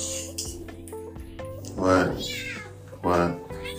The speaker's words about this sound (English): This cat wants to eat.